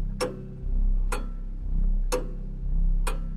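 A pendulum clock in a living room ticks steadily, four sharp, evenly spaced ticks about a second apart, clear over a low, faint hum, with no voices.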